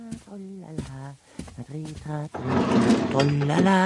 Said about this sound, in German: Und sie geht zur Kommode und öffnet eine Schublade.